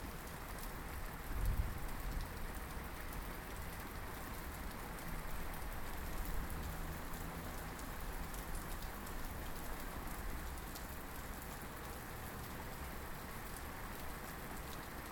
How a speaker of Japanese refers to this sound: これはひどい雨だ。雷まで。こんなに荒れるのは初めてだ。